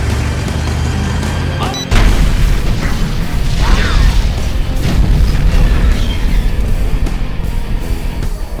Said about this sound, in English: At about 7 a.m., as they drove west, a terrific explosion rocked Wooderich's convoy.